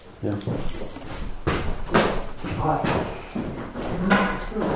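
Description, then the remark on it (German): A door is pushed shut and locked, with several wooden clunks and rattles in quick succession, one after another over a few seconds, while faint voices murmur in the background. “Von Tür zu, ja, da auch Tür, genau, jetzt ist es verriegelt.”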